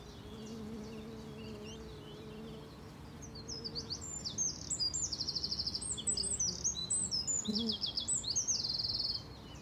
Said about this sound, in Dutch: Maar anders hoor je gezoem en vogeltjes.